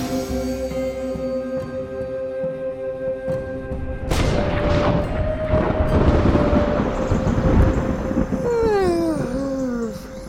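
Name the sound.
thunder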